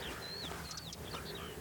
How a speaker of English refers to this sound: This is a wren just clicking away in the undergrowth to my left. Oh, the bracken undergrowth.